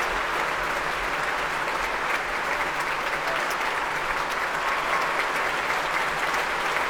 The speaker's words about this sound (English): He's being warmly applauded by the BBC Scottish Symphony Orchestra as well, who are now rising to their feet to enjoy some of the applause as well.